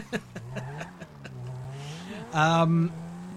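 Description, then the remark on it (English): A video game car engine drones and revs, its pitch rising and falling, with a few sharp clicks early on and a louder surge of revving near the end. “That is Russell's car.”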